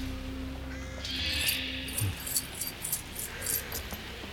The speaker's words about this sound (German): Nachdenklich spielte Justus mit dem Haustürschlüssel, den sie im Totenkopf gefunden hatten.